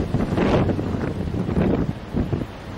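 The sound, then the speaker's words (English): Strong wind buffets a camera microphone outdoors in heavy, rumbling low-frequency gusts, rising and falling in a few surges, loud with a steady roar underneath and no voices. “It's so windy, I can't keep my camera still.”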